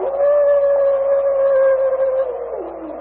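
A single long, steady wolf howl holds one mournful pitch for a couple of seconds, then slides downward as it trails off, loud with no voices.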